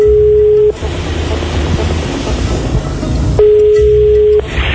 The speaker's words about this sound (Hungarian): Szóban szakadt, hangfény akad, csörög a telefon, József sorsa megpecsételődik.